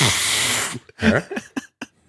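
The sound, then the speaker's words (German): A voice imitates a fart: a loud, breathy, hissing blast lasting under a second, followed by a few short, buzzy, sputtering bursts that fade out. “Wie macht man das, dieses Pups?”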